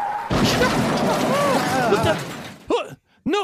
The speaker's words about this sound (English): The car just smashes onto the stage.